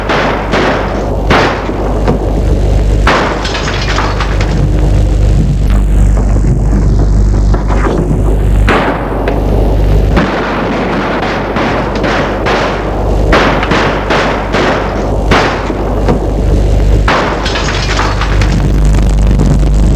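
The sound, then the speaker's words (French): A rapid, irregular volley of loud gunshots, sharp cracks and heavy booms fired over a constant low rumble, continuing without a break for the whole stretch, with no voices. “Il entend des coups de feu.”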